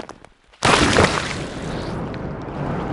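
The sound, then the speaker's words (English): After a brief quiet moment, a sudden loud crunching burst erupts and gives way to a sustained rough, grinding noise as killer whales feed on a porpoise, with no voices. “And then at the end of the recording, there's some crunching sounds as the whales are starting to feed on the porpoise.”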